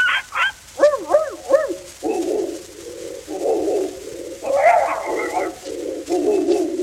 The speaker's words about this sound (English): And the bird began to wobble. And the dogs to bark.